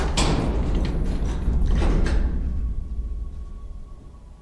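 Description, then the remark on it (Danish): A door into a storage room slides or swings open slowly with a low, rumbling scrape and a few soft knocks, then the sound fades away into quiet after a couple of seconds. “Og så åbner jeg døren sådan langsomt.”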